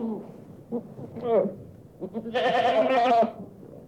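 A goat bleats twice: a short wavering cry, then a longer, loud, quavering bleat with a rough, buzzy tone. No one speaks.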